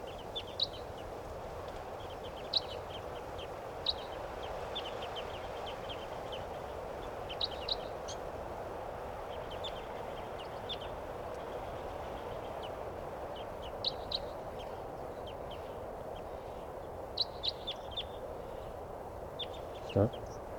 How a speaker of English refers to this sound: and there are some type 2s in the trees here, pointing at the wild birds.